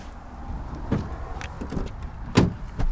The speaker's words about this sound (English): We get in the car and head out.